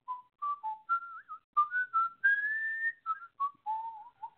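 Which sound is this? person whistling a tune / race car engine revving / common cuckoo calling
person whistling a tune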